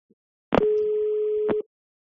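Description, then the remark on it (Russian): A single steady telephone line tone of an incoming call sounds for about a second, clear, framed by a sharp click at its start and another as it cuts off, with nothing else around it. “Следующий телефонный звонок.”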